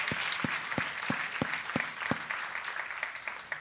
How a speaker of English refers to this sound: We've got a group of dedicated volunteers that serve in our children's ministry. Our kids hear this and see this and participate in this every single week at North River Church. So let's give them a hand.